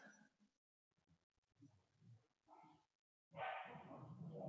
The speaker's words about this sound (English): If y'all hear dogs, I apologize. I have two of my own. My daughter brought home her puppy. They're not getting along.